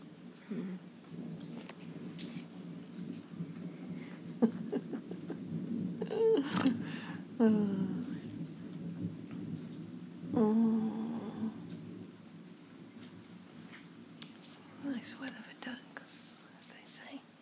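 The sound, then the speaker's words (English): Heavy rain of big droplets pours down in a steady, dense hiss, with a low rumble of distant thunder underneath and a few brief, sharper splashes standing out along the way. “The big drops of rain that, such big droplets of rain that they come down like a stair rod.”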